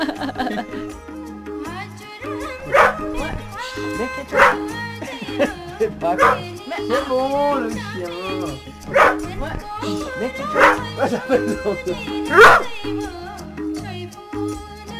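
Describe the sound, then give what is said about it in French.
A dog barks repeatedly, about seven sharp, loud barks spaced a second or two apart, over a continuous tonal background that sounds like music or voices. “Vous lui parlez en népalais à votre chien des fois?”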